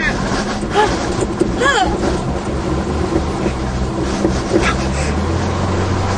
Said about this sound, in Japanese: はっはっ、あー、すごい、かかってるじゃん、エンジン。かかってるよ、かかってる。 かかった ブルートラック復活、おめでとう。 マジかかってる、かかってる。